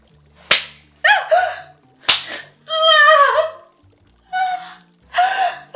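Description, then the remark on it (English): Two sharp whip lashes strike across the breasts and thighs about a second and a half apart, each followed by loud gasping cries and pained vocal sounds, with no spoken words. “Master, your whips fire across my tits.”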